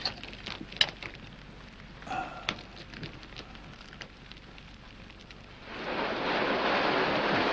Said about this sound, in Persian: به این ترتیب روزها گذشت، ولی یک بار بارون شروع به باریدن کرد و انگار تصمیم به قطع شدن نداشت.